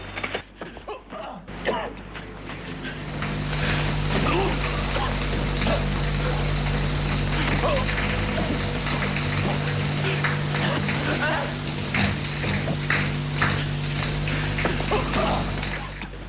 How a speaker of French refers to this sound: Eh, ils prennent une bonne douche.